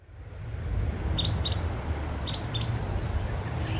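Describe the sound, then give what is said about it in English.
Outdoor ambience off the American River: a steady low rush fills the background while birds chirp in two short bursts of high, quick tweets, with no talking. “This is sound from back home, back where I grew up, off the American River.”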